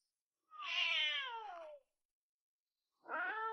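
A female wild kitten meows twice, clear, in her natural habitat, with no other sounds. The first cry is long and falls in pitch, and after a short silence a second meow starts and is cut off.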